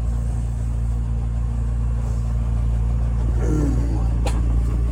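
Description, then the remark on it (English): A car engine roars steadily at a loud, sustained level, with a brief squealing chirp near the end as the tires spin in a burnout, burning rubber. “You know, the idiot is just there burning rubber.”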